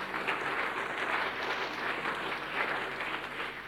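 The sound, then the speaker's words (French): An audience claps for a professor in steady, dense applause that holds at an even level from start to finish, with no voices rising above it. “le professeur, oui, applaudissez.”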